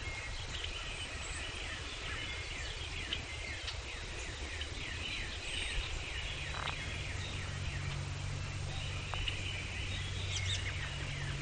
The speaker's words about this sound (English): There's the gobbler.